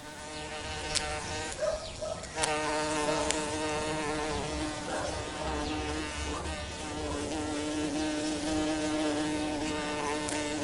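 A bumblebee buzzes steadily for the whole stretch, a low droning hum with a few sharp clicks early on and no voices.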